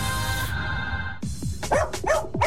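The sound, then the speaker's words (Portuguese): A sustained musical tone cuts off, then a dog barks rapidly several times in quick succession, yappy, in a radio sponsor jingle for the pet shop Latidos e Miados on Nativa, with no talking. “Oferecimento Latidos e Miados.”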